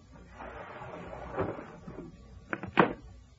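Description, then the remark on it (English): A window of a dark room being forced open by an intruder: a long, grinding scrape and creak of the frame, then two sharp knocks as it gives way, with no voices. “Hours later, I was sitting in an easy chair in the corner of the dark room when I heard the window being forced.”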